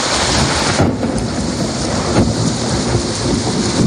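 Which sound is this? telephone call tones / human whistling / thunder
thunder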